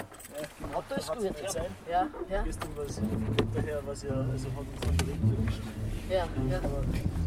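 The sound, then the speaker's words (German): People talk inside a moving car, their voices enclosed, over a steady low road and engine rumble that persists underneath throughout. “So, im Auto ist warm.”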